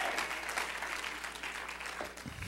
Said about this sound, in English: Ah, clap your hands, lift your voice, give God some praise. Praise God. Praise God.